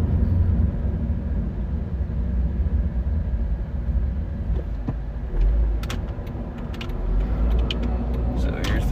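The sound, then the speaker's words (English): Steady, loud low rumble of a car driving past a building, heard from inside the cabin, with continuous road noise throughout and a few small clicks and rattles toward the end. “I'm driving past this building where I raked my nails.”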